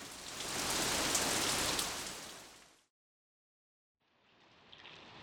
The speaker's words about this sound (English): It was raining hard. It was raining heavily.